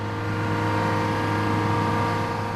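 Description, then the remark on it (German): The diesel engine of a seismic vibration truck in St. Gallen drones steadily at a constant idle while the truck's plates send fine vibrations into the ground to survey the subsurface. Its deep, low hum is layered with sustained tonal harmonics and a faint rough rattle, loud and unbroken, with no voices. “Lärm macht dabei vor allem den Dieselmotor.”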